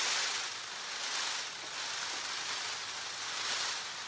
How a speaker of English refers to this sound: Scientists aren't quite sure how the train rattle love buzz fits into peacock mating behavior, but for the first time, we're starting to listen in.